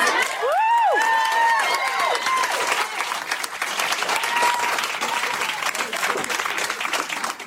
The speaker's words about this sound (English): This might be the most enthusiastic applause and cheering of the whole night. I imagine it's cathartic for a lot of the non-black parents in the audience.